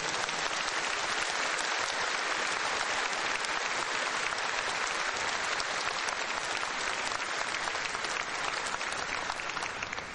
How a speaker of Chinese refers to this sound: 所以我请大家再一次以热烈的掌声来感恩。